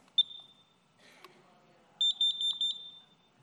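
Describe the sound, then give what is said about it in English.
A carbon monoxide alarm going off in a home gives a single sharp beep, then after a short pause a rapid burst of five or six shrill, piercing beeps, loud with faint background noise. “You know what this is? Carbon monoxide alarm. It's a carbon monoxide alarm.”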